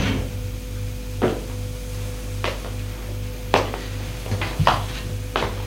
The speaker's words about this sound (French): Elle le mène jusqu'à sa chambre à lui. Ferme la porte.